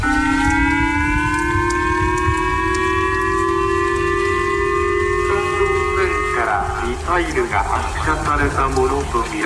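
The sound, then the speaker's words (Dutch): A loud, steady wail from a civil defense warning siren in northeastern Japan at night, warning of an overflying North Korean missile, its pitch slowly rising as it holds. Around six seconds in, a voice begins speaking over the siren's drone. “Ja, dit geluid klonk vannacht onze tijd, begin van de nacht, in het noordoosten van Japan.”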